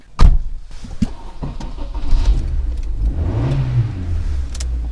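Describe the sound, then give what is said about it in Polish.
A small car engine idles steadily with a low, even hum, opening with a sharp click or thump and a few faint knocks before a brief rise in revs near the end. The car has 208,000 km on it and belongs to the City Guard (Straż Miejska) in Łęczyca, Poland. “No i dobrze chodzi, silniczek cyka.”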